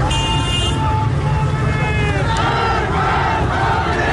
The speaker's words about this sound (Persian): و در مهاباد شعارهای علیه رهبر جمهوری اسلامی سر می دادند.